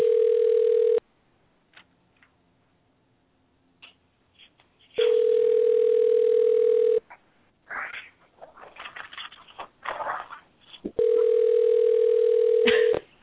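A telephone ringing tone over the line as a call is placed to a cell phone: three loud, steady buzzing rings, each about two seconds, separated by longer pauses, with faint muffled sounds between the second and third rings.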